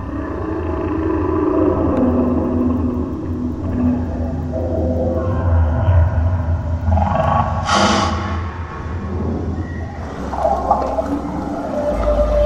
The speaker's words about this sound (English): It's called National Geographic Encounter. Close your eyes as the sounds of sea creatures swirl around you.